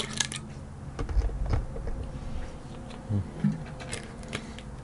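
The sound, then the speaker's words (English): Someone drinks close to the microphone, with a few soft gulping swallows spaced through the quiet and faint clicks and rustles in between. No one speaks. “Alright, let's drink.”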